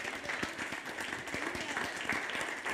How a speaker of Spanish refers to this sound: A ver, ese fue el aplauso americano.